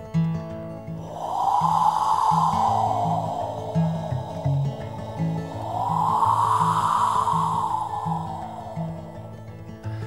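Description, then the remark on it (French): A fresh, damp wind at sea blows in two long, whooshing gusts that swell and fade over several seconds, with a low, uneven rumbling drone running underneath throughout. “Ça, c'est le vent.”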